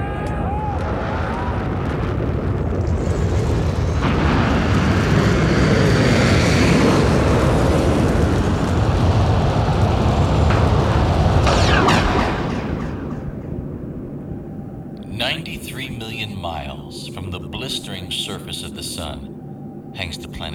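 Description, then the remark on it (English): A rocket engine's thunderous roar at launch, after a countdown, fills the first twelve seconds with a dense, rumbling blast, then drops away to a softer rumble as voices come in over it. “T-minus 15, 14, 13, T-minus 10, 9, 8, 7, 6, 5, 4, we've run from the engine.”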